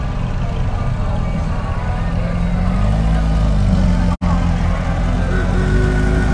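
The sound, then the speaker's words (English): Dressed-up old cars of the Hillbilly Shriners rolling past in a parade, their engines making a steady, loud low rumble that drones on without a break except for a split-second dropout near the end. “It's always interesting how they dress these cars up, especially these old ones.”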